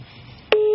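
After a moment of quiet hiss, a click is followed by a loud, steady telephone ringing tone of a call to a police station's duty desk, a single clear electronic pitch that holds without pause to the end.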